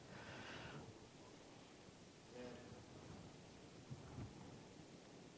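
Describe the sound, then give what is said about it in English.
Steady, dense hiss of heavy rain pouring down outside, a continuous wash of noise with a low rumble beneath and faint murmured voices surfacing briefly in the middle. “It's pouring down rain out there.”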